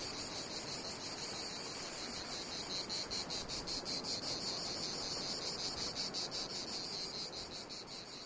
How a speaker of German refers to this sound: Mit diesem schönen Grillenzirpen können wir uns sicher sein.